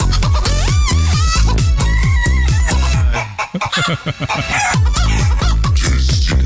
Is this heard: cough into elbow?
no